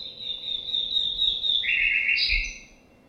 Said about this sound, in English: I'll give a very simple example now of birdsong.